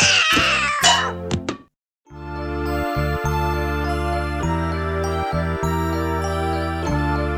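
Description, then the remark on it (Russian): A cat gives a loud, drawn-out meow lasting just over a second; after a short pause, steady instrumental music starts and continues to the end. “Кот кататься не привык, опрокинул грузовик.”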